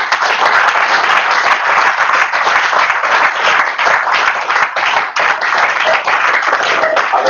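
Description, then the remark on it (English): A crowd applauds for Jesus steadily, many hands clapping in a dense, continuous wash of sound that stays loud and even throughout, with no voices standing out. “You can clap for Jesus now.”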